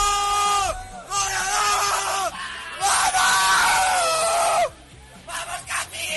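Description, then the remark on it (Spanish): Several Leganés football players, including Gabriel Pires and Mantovani, shout and yell loudly in bursts in their locker room after beating Real Madrid, their celebratory cries overlapping in a raucous group chorus with brief pauses between outbursts. “Los gritos de Gabriel Pires y de Mantovani, por ejemplo, en el vestuario del conjunto pepinero.”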